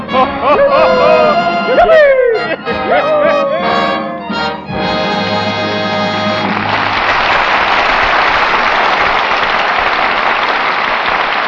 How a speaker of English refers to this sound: What are you applauding for? They're singing it to you.